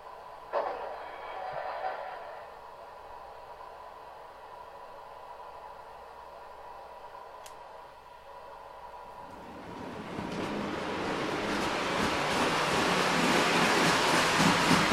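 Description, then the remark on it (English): A subway train runs with a steady electric whine and low rumble, then swells into a louder, rushing roar partway through as it picks up speed. No voices are heard. “Sounds to me like the subway.”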